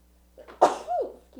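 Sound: sneeze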